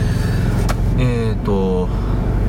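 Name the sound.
car interior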